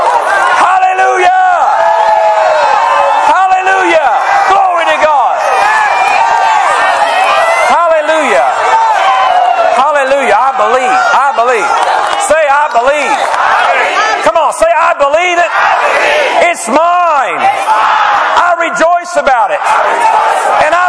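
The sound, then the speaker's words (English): A large audience shouts and cheers continuously, many voices whooping and yelling together in a loud, sustained roar for the whole stretch. “Shout before those walls come down. I shout before the walls come down.”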